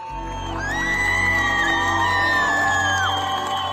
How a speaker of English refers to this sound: In this clip, a young woman dances as she throws her headscarf onto a bonfire in the middle of the street, and a large crowd cheers her on.